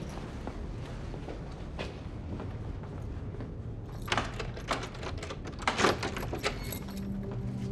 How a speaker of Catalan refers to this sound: L'Ivan entra, obre la porta,